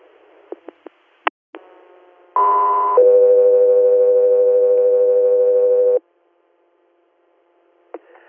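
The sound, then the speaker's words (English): Radio dispatch alert tones for the air medical unit Scott 3 Air, for an inter-hospital transfer from Jones Memorial in Wellsville, New York, to Buffalo, New York: a few sharp clicks, a loud steady tone, then a longer, lower tone held about three seconds, silence and a final click. “Scott 3 Air, stand by for tones.”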